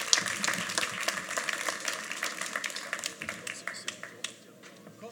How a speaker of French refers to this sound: Il faut les applaudir. Merci.